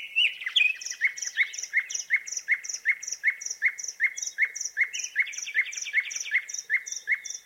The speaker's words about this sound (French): Les oiseaux chantent et ça leur demande une dépense d'énergie énorme.